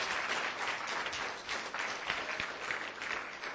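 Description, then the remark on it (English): An audience at the close of a meeting claps steadily, a dense wash of many hands at an even, sustained level for several seconds with no voices standing out. “So give him a big applause.”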